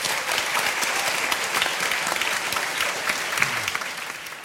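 Sustained audience applause, a dense steady wash of many hands clapping at an even loudness throughout, with no voices rising above it.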